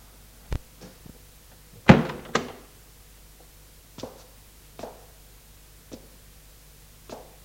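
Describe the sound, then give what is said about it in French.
A door swings shut with a heavy thump and a brief rattle, followed by a handful of softer, irregular thuds spaced out over the next few seconds. No one speaks. “Il ferme la porte et s'avance vers elle en titubant.”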